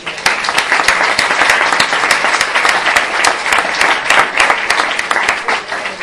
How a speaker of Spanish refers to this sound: Es el dibujante, yo creo que se merece un aplauso.